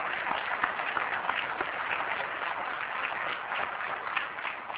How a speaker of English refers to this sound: Now, that's what I call the new Georgia, and I do think that's worthy of an applause for Greg Dozier and the Department of Driver Services.